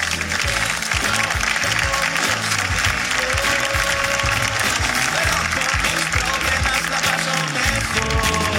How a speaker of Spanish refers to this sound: Señores, y aquí comienza Hablando Huevadas, un fuerte aplauso.